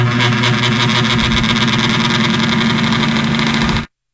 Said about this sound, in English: It was like an old fan sound. I didn't understand.